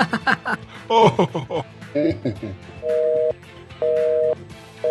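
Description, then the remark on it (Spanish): After a few seconds of chuckling voices, a phone line cuts off and a steady electronic tone starts beeping in regular half-second pulses with short gaps, clear and fairly loud. “Pues parece que se ha cortado.”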